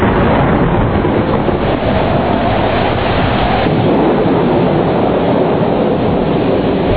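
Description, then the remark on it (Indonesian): A steady, loud roar of heavy rain lashed by strong wind, dense and unbroken for the whole stretch, with a deep rumbling low end and no voices. “Perempuan itu kembali memutar kepalanya, dan matanya dilayangkan ke depan, menatap air hujan yang dihempaskan angin kencang.”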